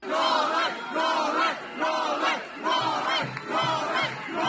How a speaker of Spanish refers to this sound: Gritos de Novak, Novak. Free Novak, o lo que es lo mismo, liberad a Novak. Han tirado de todo, han querido abrir las puertas y hasta uno ha saltado encima del coche.